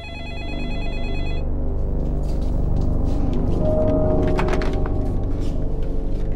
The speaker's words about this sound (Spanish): Varias llamadas llegaron al hogar de los Smith después del servicio conmemorativo. Sin saber si era el asesino de Sherry, Dawn tuvo que atenderlas todas. Poco después de la medianoche, el teléfono de la casa Smith sonó de nuevo.